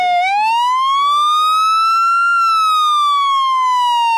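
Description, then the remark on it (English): A loud ambulance siren wails as the ambulance pulls into a complex in Syria, its tone rising slowly and then sliding back down in one long sweep, with faint voices briefly audible underneath early on. “As an ambulance pulls into the complex,”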